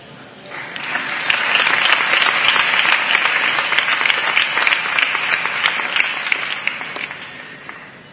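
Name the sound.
loud audience applause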